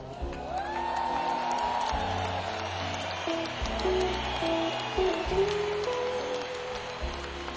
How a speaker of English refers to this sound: Please give a warm round of applause on percussion to ….